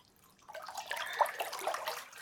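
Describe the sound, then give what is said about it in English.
Steady splashing of warm spring water starts after a brief quiet moment and continues with small bubbling, sloshing bursts at moderate volume, with no voices. “Is it the enchanted spring water”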